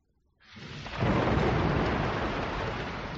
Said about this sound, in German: Gott Lob und Dank ist an einem Tag ein Gewitter losgegangen. Es hat wie mit Gelten geschüttet. Es hat geregnet und nicht mehr wollen hören.